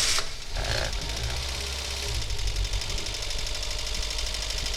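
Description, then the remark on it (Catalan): A Renault 4L's engine turns over and settles into a steady, rattling idle, loud, with a dense mechanical chatter running throughout. “en Paquito encendrà el cotxe podreu sentir el motor d'aquest 4L que funciona perfectament”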